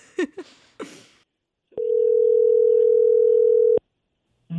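A phone ringback tone on an outgoing call to someone's mother: one steady, mid-pitched tone lasting about two seconds, then silence. Brief voice sounds come just before it, and a voice begins again at the very end.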